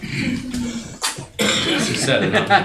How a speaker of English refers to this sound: She sneezed.